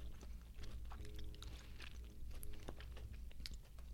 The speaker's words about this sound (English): It's so gummy. I'm going to be chewing this thing for an hour.